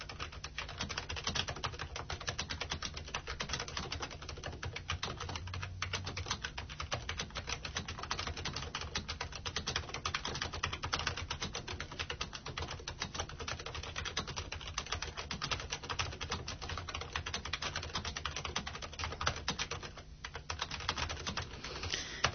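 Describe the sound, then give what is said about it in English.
Steady, rapid typing of a message on a keyboard, dense clicking keystrokes that continue without pause for over twenty seconds, fairly quiet, with no echo and no talking. “Right, I'm going to start typing the message, and as you can hear, there's no echo.”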